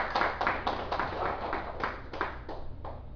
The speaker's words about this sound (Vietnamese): Xin đại chúng vỗ cho tràng pháo tay.